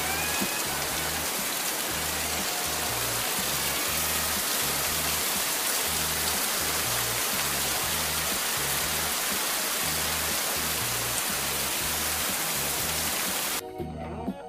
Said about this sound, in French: Mais ici, là, la pluie n'est pas française, la pluie est laotienne.